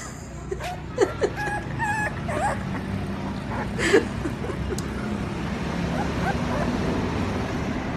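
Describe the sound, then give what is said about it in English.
Small puppies yip, whine and growl in a quick burst of high, sharp calls near the start, with another yelp midway, over a steady low rumble of background noise. “The dog hung by its teeth, growling, trying to pull Frank off the gate. This puppy was strong.”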